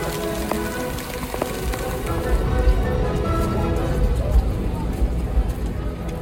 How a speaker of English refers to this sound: The rain is terrible right now. It's Jazz Fest. You must not be from here. You would understand. It is raining really hard, as you can see.